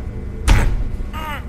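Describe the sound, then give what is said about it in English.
Someone struggles with a door frozen shut, its handle frozen solid and ice under it: two heavy thumps with a short strained squeak between them, as the door is jerked and rattled without opening. “The door handle's frozen solid.”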